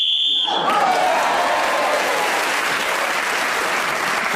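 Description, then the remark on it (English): A short, steady high-pitched whistle blast sounds for under a second as a speaker is speaking on the subject, ending the turn, then is swallowed by loud, sustained applause from a crowd that continues to the end. “So, … was actually speaking then on the subject when the whistle went, going against that extra point.”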